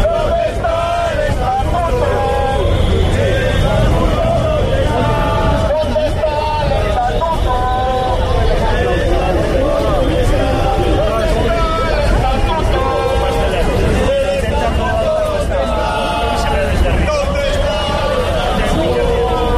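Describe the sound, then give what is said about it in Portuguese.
A large crowd of protesters in front of the government delegation in A Coruña shouts slogans about the energy price and the statute together, a loud, continuous roar of many voices that swells and chants in waves throughout, with traffic-like rumble underneath. “Pues así sonaba también gritos sobre el estatuto.”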